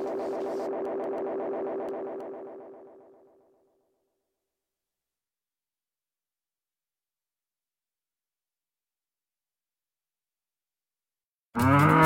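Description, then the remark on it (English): A single long cow moo, loud and processed with echo, swells then fades away over a few seconds, introducing June Dairy Month in Wisconsin. Silence follows, and a voice starts talking just at the end. “And though more than 5 million people call Wisconsin home, we share our state with close to 1.5 million cows.”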